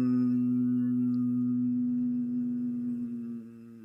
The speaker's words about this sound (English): But so humming, so do 3, low, slow, hum. And if you find humming difficult, say the word hum and just let the M linger. Hum.